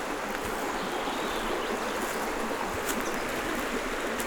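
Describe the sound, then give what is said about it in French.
A steady rush of a stream flowing through thick woods beside a trail fills the whole recording, a dense continuous babble with faint gurgles and no voices. “Elle borde le ruisseau qui s'écoule”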